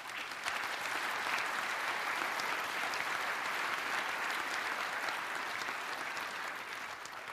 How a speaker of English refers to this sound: And it's also thanks to the thousands of people that provide support in the forums, that write documentation, that help evangelize Drupal and all these things. So maybe another applause for them.